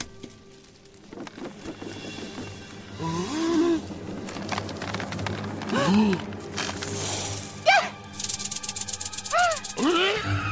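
A dry, rapid rattlesnake rattle buzzes in bursts, growing dense and insistent toward the end, mixed with swooping, whistle-like tones and a busy, cluttered background.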